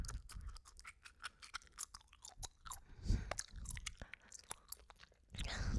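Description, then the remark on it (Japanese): Wet, squelchy gum chewing right up close to the mic, as if beside the listener's ear, a fast run of smacking, clicking mouth sounds with a few louder crunchy bursts, the chewing deliberately sped up, and no talking. “くちゃくちゃ聞こえる？”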